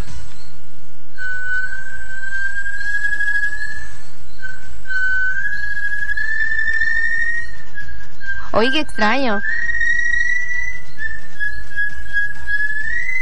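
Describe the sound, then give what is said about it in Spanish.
A small female bird, a slaty-masked tinamou (tinamú de máscara pizarrosa), sings long, thin whistled notes that waver and rise slightly in pitch, broken midway by a quick, warbling trill. A voice briefly speaks over it. “Es al ser humano a quien no le tiene miedo el pajarito. Vamos a escuchar por aquí su canto.”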